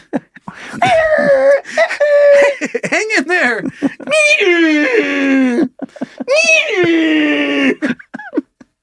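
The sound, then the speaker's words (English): A squeaky rubber chicken dog toy lets out a string of loud, wailing squawks, some long and drawn out with bending pitch, some short and choppy, while a voice speaks briefly among them. “The rubber chicken noise.”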